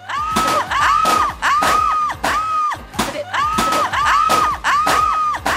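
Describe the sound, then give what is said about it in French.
A voice mimics a wailing air-raid siren with repeated rising-and-falling tones, broken up by loud, bursting vocal bomb explosion noises, energetic with no actual words. “Une déclaration de guerre avec des bruits de bombes et la sirène qui hurle, c'est ….”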